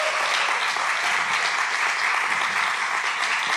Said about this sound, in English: would you guys just give him a hand clap?